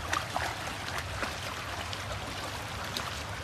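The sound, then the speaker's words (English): Water swishes and laps steadily, a continuous gentle sloshing with a few brighter splashy drips near the start, as a mother walks with a child in the water. “Yes, Mom will walk with you in the water.”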